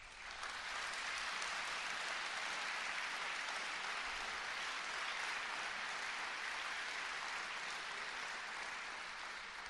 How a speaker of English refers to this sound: John Hogue is here with us, and we are privileged to have that radio station as part of our radio family. So please give John Hogue a round of applause.